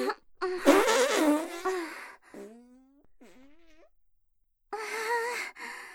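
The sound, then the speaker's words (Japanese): A voice makes loud, buzzing, drawn-out fart noises with the mouth, a long raspy burst, then a few shorter squeaky wavering ones, and a final blaring burst after a brief pause. “これからもおならアイドルの私、応援よろしくね。”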